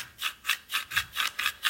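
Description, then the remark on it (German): Santa Claus's big boots crunch through deep snow on Christmas Eve as he stamps his way to the reindeer, in a steady, quick rhythm, about seven gritty, hissing steps evenly spaced, each a soft rasping scrunch with no voices. “Und es knirschte unter seinen Stiefeln.”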